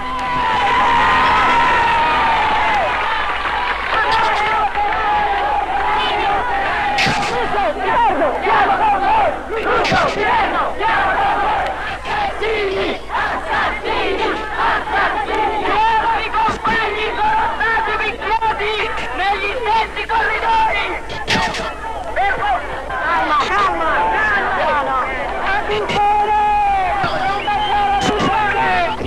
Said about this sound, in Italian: La manifestazione viene bruscamente interrotta dalla polizia che carica con estrema violenza.